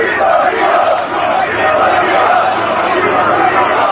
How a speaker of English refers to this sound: So you can hear those chants.